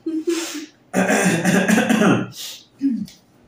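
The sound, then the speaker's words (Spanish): Someone coughs, a rough, raspy burst lasting over a second, bracketed by short throaty vocal noises before and after. “Vi que te tembló la voz y yo también quedé a toser.”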